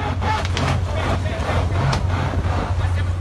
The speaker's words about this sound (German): Für einige Sekunden wird das Polizeiboot kurz zwischen Hafenmauer und Rettungsschiff eingeklemmt. Dabei entstehen bedrohlich klingende Geräusche.